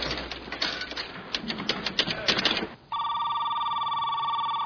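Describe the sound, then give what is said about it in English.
A burst of rapid clicking and clattering, like a phone being handled or dialed, gives way to a steady, loud electronic telephone ring tone that continues to the end. “Look, this is my one phone call.”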